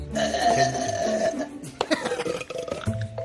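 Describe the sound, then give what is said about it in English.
A woman lets out a long, loud, rumbling burp drawn out for over a second, followed by a few shorter gurgling belches and throaty croaks. “Well, I've kind of always known that I was able to burp loud.”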